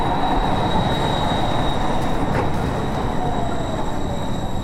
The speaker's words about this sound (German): Deine Tram kommt.